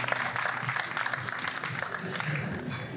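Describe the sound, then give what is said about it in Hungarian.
An audience claps steadily for a few seconds for the two founders of the startup Sruli, a dense, even patter of many hands at a moderate volume with no voices standing out. “nagy taps nekik, a Sruli alapítói.”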